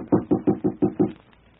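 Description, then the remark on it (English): Six quick, evenly spaced knocks rap on the wooden door of a typewriting service office, firm and dull, followed by a short stretch of quiet room tone. “This looks like it, Pop. June Morris, typewriting service. Shall I knock?”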